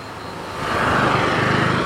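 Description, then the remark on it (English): A small scooter engine passing on a lit street after dark swells into a steady buzzing drone that grows louder after a quiet start and holds there, with no one speaking. “It really is just so, it's just a little scooter, man.”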